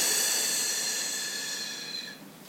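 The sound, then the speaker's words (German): A long, steady breath blown out through the mouth during a guided breathing exercise, an airy hiss that holds for about two seconds before fading slightly at the end. “Und wir atmen durch den Mund aus.”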